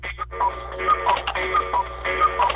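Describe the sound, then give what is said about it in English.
A cuckoo clock ticks steadily while short tonal chime notes repeat in a regular rhythm over a faint low hum, moderately loud, with no voices. “That's a cuckoo. A cuckoo clock.”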